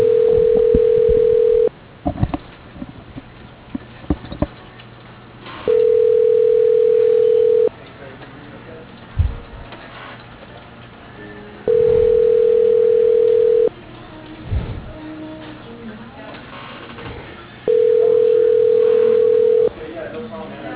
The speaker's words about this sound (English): At the tone, record your message. To end your recording, press number sign.